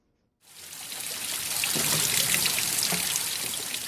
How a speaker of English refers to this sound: The people of Cape Town have been harvesting water in Spring Road in the leafy suburb of Newlands for centuries. Despite the drought, the spring water hasn't stopped flowing down nearby Table Mountain.